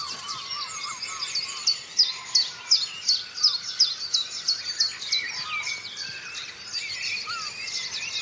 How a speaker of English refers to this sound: Blackbird kicking in there as well. So that's your chiff-chaff there. Chiff-chaff, blackbird and wren going.